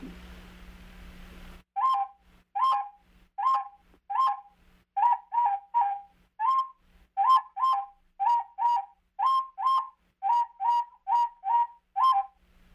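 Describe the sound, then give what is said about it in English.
A yellow and white bird sings a long series of short, clear whistled notes in a steady, quick rhythm, fairly loud, with nothing else after a brief burst of noise at the start. “Another bird that was yellow and white, and it had a song, and it sounded like this.”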